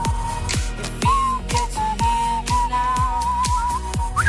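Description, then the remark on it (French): Someone whistles a steady, slightly wavering tune at moderate loudness, accompanied by regular thumping beats about twice a second. No one speaks. “En fait, faut pas siffler devant le micro, faut siffler de côté, sinon ça fait.”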